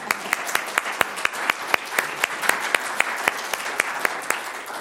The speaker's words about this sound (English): I think we should clap. Yeah.